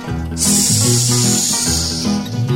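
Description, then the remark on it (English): A voice makes a long, steady hiss imitating a wild snake, starting abruptly and holding for about two seconds, loud, over a sustained tonal musical backing. “I saw the wild snake and the wild snake hissed.”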